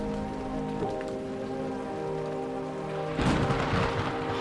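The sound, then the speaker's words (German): Steady rain patters down as a storm rolls in at night, and a deep, distant rumble of thunder swells in near the end, thickening the low roar of the storm. “Es grollt und gurgelt am Nachthimmel.”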